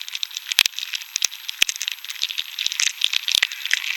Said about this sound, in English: The first sounds I heard was just sort of a kind of stirring, crackling noise that turned out to be the beetles moving.